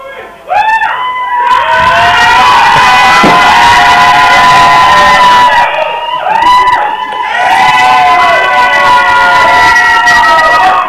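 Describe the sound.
A group of voices shouts and cheers loudly and nearly continuously, with high excited yells rising and overlapping, a brief dip midway before the clamor surges again.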